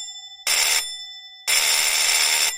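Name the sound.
doorbell ringing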